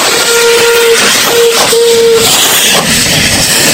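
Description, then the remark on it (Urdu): A 103-year-old steam locomotive at Pakistan Railways' Mughalpura workshop, being restored for a safari train, sounds three steady, mid-pitched whistle blasts, one long and two shorter, over a loud continuous hiss of steam that carries on after the whistle stops. “Pakistan railway کی مغل پورہ work shop میں 103 سال پرانے سٹیم انجنز کی بحالی کا کام جاری ہے”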